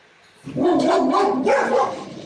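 A person's dogs bark loudly in a dense, overlapping run of vocalizing that starts abruptly after a brief quiet moment and continues to the end, with no talking.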